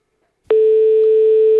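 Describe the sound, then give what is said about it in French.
After a short silence, a telephone ringing tone starts abruptly during a prank phone call by Jean-Yves Lafesse to a post office: one steady, loud, single-pitched beep that holds unbroken to the end, with no voices. “C'est un canular téléphonique, il téléphone dans une poste.”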